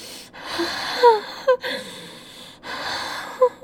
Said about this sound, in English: Sorry, I'm breathing. I'm breathing. I'm breathing.